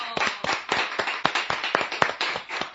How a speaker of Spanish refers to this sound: Acá el público se pone como loco. Otro aplauso. Fuerte, fuerte el aplauso.